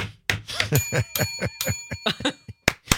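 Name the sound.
bell ringing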